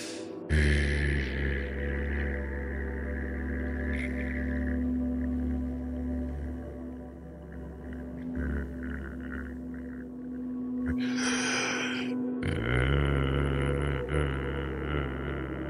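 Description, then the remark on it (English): A steady, low voiced hum held on one exhaled breath imitates a buzzing bumblebee in a breathing exercise, smooth and even, broken briefly by a quick inhale through the nose before the humming resumes. “Together we inhale through our nose and exhale, making a smooth, even humming sound like the sound of the bumblebee.”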